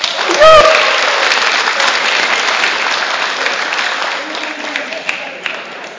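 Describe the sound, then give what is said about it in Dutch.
An audience breaks into sustained applause for a group of men, a dense wash of clapping that holds steady for several seconds, with a brief whoop or cheer near the start and a few sharper claps toward the end. “En graag een groot applaus voor deze mannen.”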